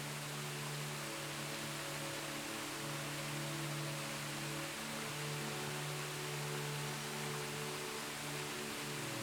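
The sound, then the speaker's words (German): A steady, dense roar of rushing water pours on without a break, a waterfall tumbling over rocks into a crystal-clear pond, broad and constant with no voices. “Das Wasser stürzt über die Felsen in einen kristallklaren Teich.”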